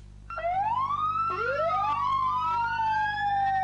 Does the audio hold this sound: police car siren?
yes